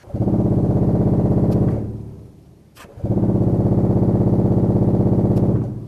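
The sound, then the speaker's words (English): A very low pedal-keyboard organ pipe, one of the biggest pipes at the back of the organ, vibrating at 16 cycles per second, sounds twice, each long held note throbbing with a fast, helicopter-like flutter, separated by a brief dip into near quiet. “I'm going to play one of those that sounds a little bit like a helicopter landing.”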